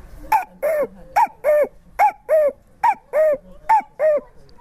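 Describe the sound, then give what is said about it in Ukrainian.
A person whistles a cuckoo call by mouth, repeating the two-note 'cu-ckoo' about five times in a steady rhythm, clear, a short higher note each time falling to a longer lower one. “Когда отец был лесником, я с ним, и я потихоньку начал с мелочей, вот с птички. Кукушечка.”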